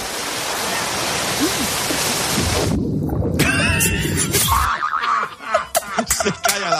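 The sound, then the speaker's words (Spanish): A reporter broadcasting from a beach in Palomares falls into the sea with a single heavy splash over steady rushing water and wind, followed by loud, excited voices shouting. “Se cae al agua.”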